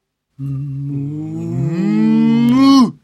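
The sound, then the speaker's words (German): A cow and her son, a young bull, moo together in one long, loud call, one voice low and steady while the other climbs in pitch before both cut off abruptly. “Die Kuh und ihren Sohn, den kleinen Stier.”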